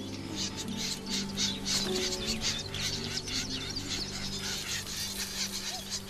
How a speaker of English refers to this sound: Not surprisingly, if the reed warblers see this cuckoo, they mob it like mad. They've got this harsh, scolding noise like this.